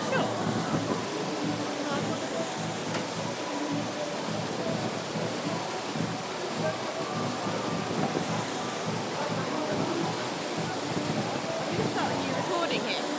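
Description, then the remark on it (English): A steady, dense rush of water pours and splashes continuously off a log flume ride, loud, with faint indistinct voices mixed into the background. “So that's the water off the log flume, I think.”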